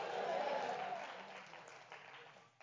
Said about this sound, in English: Somebody clap your hands and say hallelujah.